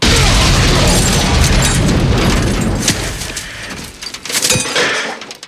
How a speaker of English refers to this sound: the scene where both Ash and the car hit the ground at the same time is right from Evil Dead 2